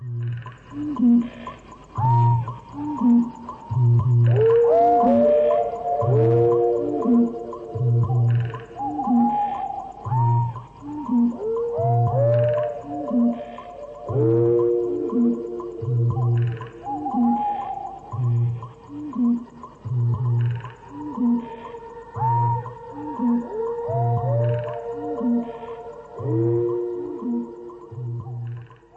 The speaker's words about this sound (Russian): Новейшие английские композиторы это тоже понимают. Вот ноктюрн, составленный из воя лисицы, с басом выпи бугая и с хором комаров.